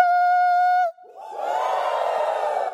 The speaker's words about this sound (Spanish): Yo voy a sonar la trompeta hoy en esta mañana. Y yo quiero que ustedes den un grito de júbilo. ¿Están listos? 1, 2, 3.